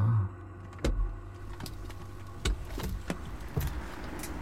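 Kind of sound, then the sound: vehicle, car engine running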